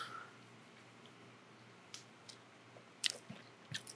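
Someone sips rhum agricole: a few quiet, wet slurps and lip smacks spaced over a few seconds, against a faint low hum, with no talking.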